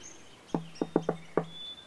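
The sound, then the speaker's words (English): Five quick, solid knocks on a wooden door as a secret knock, in a short, slightly uneven pattern, fairly loud, with faint bird chirps in the background and no talking. “You just knock 5 times fast, and then I knock 2 times back, and then I let you in.”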